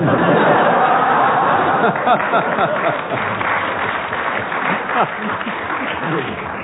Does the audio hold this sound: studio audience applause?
yes